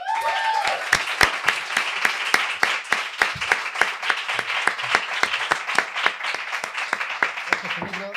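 A crowd applauds steadily for several seconds, a dense wash of clapping with sharp individual claps standing out at a fairly even rhythm, loud and close throughout.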